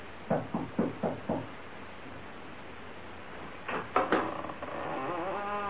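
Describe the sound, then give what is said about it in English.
Five quick, even knocks rap on the wooden door of an old house on Bald Hill, as Skeezix knocks, followed after a pause by a few more knocks and then a door or latch sound with a faint whistling tone. “You knock”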